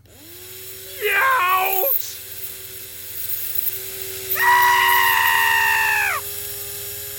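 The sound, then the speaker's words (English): A power drill whines in two bursts while boring ear canal holes into a foam dummy head, first a short wavering spin of about a second, then a steadier, higher-pitched run lasting nearly two seconds, fairly loud with a faint hum between. “So we've got these nice clean drill holes for ear canals.”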